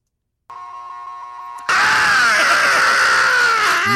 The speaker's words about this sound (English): I'll play the song, but play the scream at the beginning.